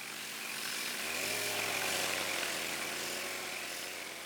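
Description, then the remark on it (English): A chainsaw roars steadily and loudly, its engine pitch dropping slightly as it bites into wood about a second in, then holding a sustained, gritty drone with no voices. “Now we're using chainsaws and planers and sanders.”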